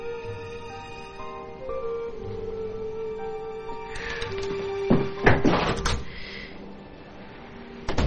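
A man heads out through a house's front door. The door opens and shuts partway through, with a quick cluster of latch clicks and a solid thud, set against a steady, sustained musical drone.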